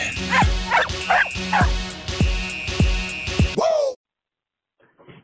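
A dog barks repeatedly in quick, rhythmic bursts, loud, with a whining yip at the end before the sound cuts off to near silence.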